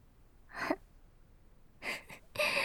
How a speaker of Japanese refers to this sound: おっきいあくび。